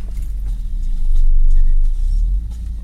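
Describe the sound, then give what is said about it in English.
A car engine rumbles as the car parks up, a steady low drone that swells louder midway and then eases back slightly, with no voices over it. “Yeah, the aerial's just gone up. You know as what? As we're parking up.”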